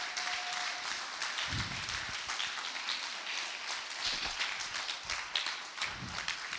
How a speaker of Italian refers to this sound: Forte questo applauso!